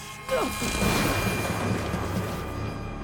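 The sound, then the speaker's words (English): A lightning bolt thrown by a woman at Peter in a hospital in the TV series Heroes: a sudden loud electric blast bursts in with a brief falling whine, then stays as a dense, sustained crackling roar that stays strong to the end with only a slight fade. “As he walks through the hospital, Peter doesn't see a woman step out with Bob and throw a lightning bolt at him.”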